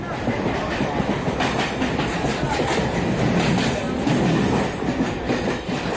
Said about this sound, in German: Ich fahre mit der S-Bahn nach Süden Richtung Hotel.